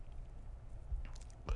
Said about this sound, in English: What was that? Dry swallows make me laugh so much. When people dry swallow, it cracks me up.